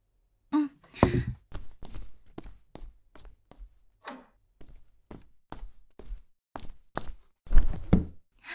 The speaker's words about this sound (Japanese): え？先生が今部屋の鍵をかけたことは何も気にしなくていいの。